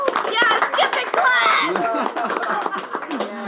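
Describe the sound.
A round of applause from a crowd, steady clapping blended with many overlapping cheering and whooping voices, loud and sustained throughout the few seconds.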